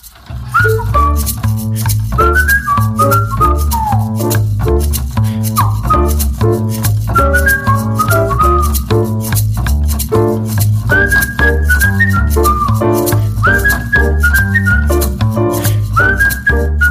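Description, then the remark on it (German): A person walking down to the subway whistles a bright, wandering little tune, phrase after phrase with short pauses, over a steady low backing of music throughout. “Ich ging hinunter zur U-Bahn und pfiff ein Liedchen.”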